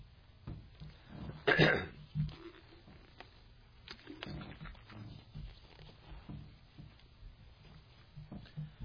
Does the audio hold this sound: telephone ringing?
no